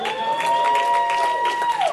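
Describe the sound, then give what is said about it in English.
A crowd claps and cheers steadily for about two seconds for a video shown on a screen, a dense wash of applause with a sustained high whistle running through it that bends and fades at the end. “I want a big cheer for it, by the way.”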